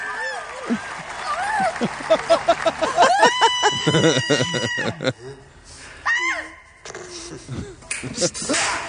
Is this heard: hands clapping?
yes